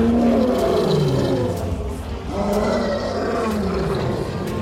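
Several lionesses answer a male lion on a rock ledge, roaring together in a loud, sustained chorus of deep, rumbling calls that swell and overlap, briefly dipping midway before rising again.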